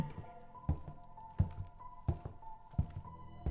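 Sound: footsteps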